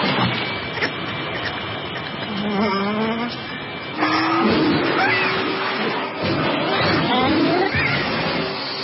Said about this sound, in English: So he says, yeah, you know what? The vacuum cleaner you should use, do I hear a vacuum cleaner in the background?